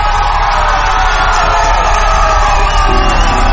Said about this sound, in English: Let's cheer.